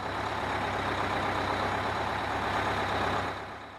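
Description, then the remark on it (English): A large engine of a bus to Seoul rumbles steadily under a broad, airy hiss like air brakes, with no voices, before the noise eases off near the end. “The protagonist was finally able to get on the bus to Seoul.”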